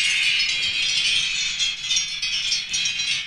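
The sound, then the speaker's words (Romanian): A replica of a bell, a reinterpretation of a bell by Claudiu Lazar presented as an artwork by Sandwich Gallery, rings with a bright, dense metallic shimmer that holds steady and fairly loud for the whole stretch, swelling slightly at moments, with no voices over it. “Replica unui clopot, da.”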